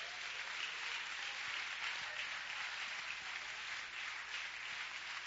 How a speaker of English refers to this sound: Give him a hand clap.